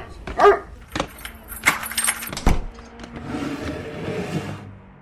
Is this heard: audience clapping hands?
no